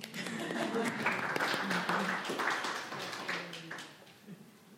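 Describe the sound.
A short ripple of audience applause: a dense, even patter of many hands clapping for about four seconds before thinning out and fading, with faint murmuring voices underneath.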